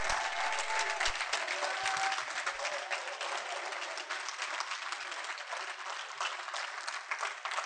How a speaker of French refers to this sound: Et ben simplement, je voudrais qu'on les applaudisse et qu'on les remercie.